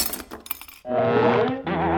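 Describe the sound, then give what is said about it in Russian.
A mug falls and shatters: a quick burst of sharp, clattering crash sounds, then a sustained, bright tonal sound takes over. No one speaks. “Ой, кружка разбилась.”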